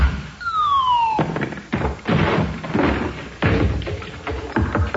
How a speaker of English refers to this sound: All right, Tweety son, this is a police raid. Constable, break the door down.